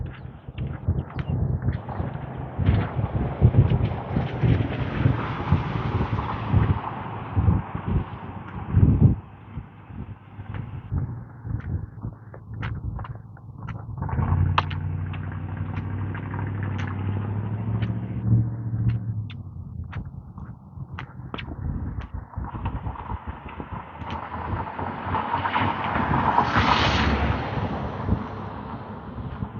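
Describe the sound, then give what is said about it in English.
A jet aircraft heading east makes a broad, steady roar as it passes overhead for about half a minute, rumbling low through the middle and rising to a brighter whine near the end, with scattered knocks early on. “On long jet heading west.”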